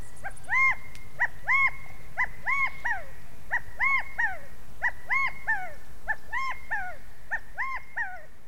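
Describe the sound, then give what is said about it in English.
A California quail's rally call repeats again and again, each a loud, clear three-note phrase with a rising-and-falling tone, given steadily over a faint low background hum. “My favorite interpretation of the rally call is that it sounds like the quail is yelling, Chicago!”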